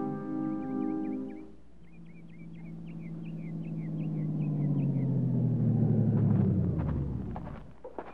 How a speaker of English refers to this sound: Truck turned down that dirt road, Captain. Yeah, leads to Floyd Mason's farm.